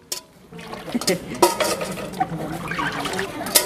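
A utensil scrapes and clinks against a large metal pot in a steady stirring rhythm, with soft wet sloshing and occasional sharper knocks, while faint voices murmur underneath.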